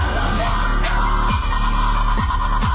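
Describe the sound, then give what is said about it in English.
Harsh, distorted screamed vocals, sung with the singer cupping the microphone, roar over a dense, loud recording, with a muffled, boxy tone and heavy low end, broken by a few sharp percussive hits throughout. “Okay, he's definitely cupping the mic when he does this.”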